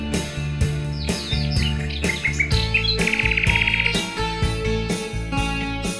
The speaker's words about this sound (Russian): И песня соловьиная волнует душою. И кажется, что рощица соловушкой поет.